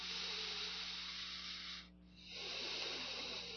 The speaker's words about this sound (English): Mu means all your breathing bring back and bring to onto your navel. Then breathing out, breathing in.